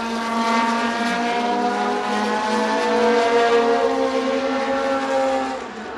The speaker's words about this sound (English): They timed that well with an aeroplane taking off, a jumbo from East Midlands Airport. Which just added to the noise.